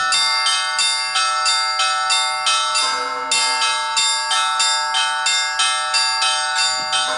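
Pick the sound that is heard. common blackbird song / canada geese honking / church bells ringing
church bells ringing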